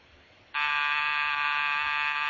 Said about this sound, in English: Rochester, was that the front door buzzer? Yes, sir.